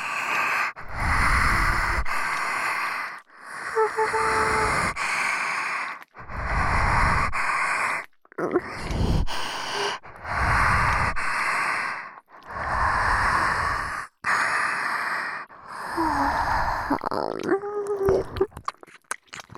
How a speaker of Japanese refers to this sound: ロリロリ吸血鬼の発情吐息、耳の奥までじっくり感じろ。お前の頭の中がわらわの唾液と吐息でいっぱいになるまで。